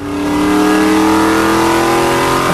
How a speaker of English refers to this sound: Can't get into second gear. Driving the car.